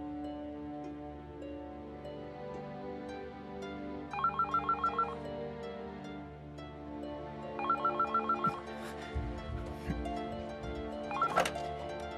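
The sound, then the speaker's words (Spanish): A telephone on a chair rings twice in rapid trilling bursts, each about a second long with a pause between, over a steady musical background; a few low thumps follow near the end. “Y después trae el teléfono que está en la silla.”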